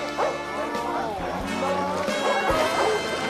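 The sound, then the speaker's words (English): Several short, yappy barks from two dogs, Jack and Lucky, barking together on a balcony, fairly loud, mixed in with a busy background of tonal music and voices over about three seconds. “Jack crawls onto the balcony and barks with Lucky.”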